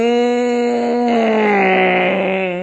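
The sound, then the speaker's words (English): A voice imitates a race car passing by: a loud, sustained buzzing hum at a steady pitch that drops noticeably midway and trails off lower, with no other sounds. “Now, all of you have heard the sound of a race car coming. It goes like this.”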